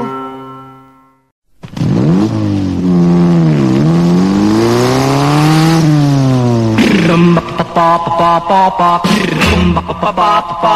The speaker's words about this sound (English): Motorcycle. Well, I drive around on a red motorcycle.